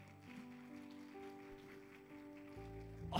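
A crowd claps steadily in praise to God in a dense, continuous patter of applause, with sustained keyboard-like tones underneath and no one speaking.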